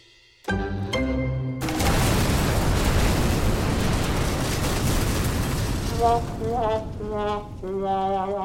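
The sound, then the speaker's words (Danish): A huge burning ship explodes: after a brief tonal passage, a huge, loud roaring blast bursts out and rumbles for several seconds before steady harmonic tones return over its fading tail. “Og få minutter efter, at de er kommet væk fra det store, flotte, men brændende skib, altså jydehaderen, så eksploderer det i et kæmpe brag.”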